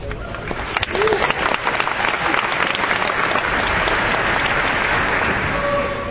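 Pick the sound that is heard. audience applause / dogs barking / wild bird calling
audience applause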